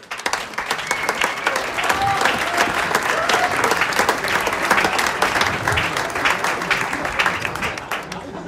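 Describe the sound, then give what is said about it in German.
Sustained audience applause at a festive evening as the fifth and last selected performer, an 18-year-old harmonica player, is called back onto the stage, a dense wash of many hands clapping at a steady, loud level throughout with no pause, a murmur of crowd noise mixed in. “Und den darf ich jetzt ganz herzlich mit einem großen Applaus nochmal auf die Bühne bitten.”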